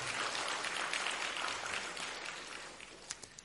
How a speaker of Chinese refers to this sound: 我们再一次鼓掌，